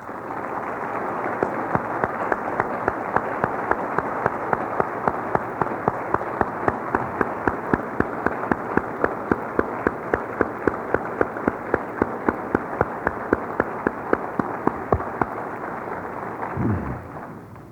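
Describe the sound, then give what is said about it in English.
A large crowd at a seminary graduation applauds the standing faculty steadily for nearly eighteen seconds, a dense wash of clapping with a few sharper claps standing out rhythmically, sustained at a fairly even loudness before tapering at the end. “Remain standing now as you receive the applause you so deserve.”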